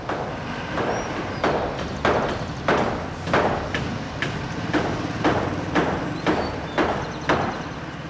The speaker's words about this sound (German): Einige Aktivisten beginnen damit, in der Mitte des Geländes das Grundgerüst für die Gemeinschaftsküche zu hämmern.